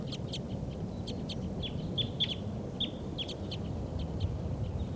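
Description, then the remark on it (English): Wild birds, believed to be white-winged crossbills, give rapid, high, short chirps in scattered bursts throughout, over a steady low rumbling background. No one speaks. “And I think there may be wild birds coming in. That's why the birds are so excited.”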